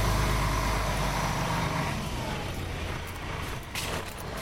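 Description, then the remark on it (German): A heavy bus rumbles past, its deep engine drone loud at first and slowly easing off, with a brief airy hiss near the end. “Der Bus muss hier nämlich lang.”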